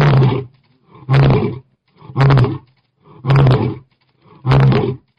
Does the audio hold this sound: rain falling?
no